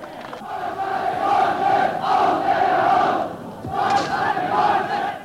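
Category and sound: crowd, crowd cheering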